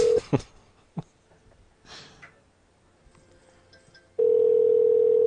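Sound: telephone ringing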